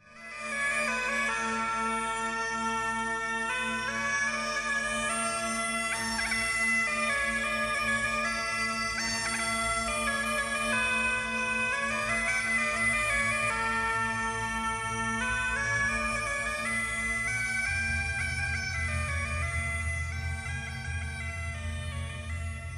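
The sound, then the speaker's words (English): Bagpipes play a slow, mournful melody over a steady, unbroken drone, loud and continuous for the whole stretch, with no voices. “We were interrupted by the melancholy sound of bagpipes.”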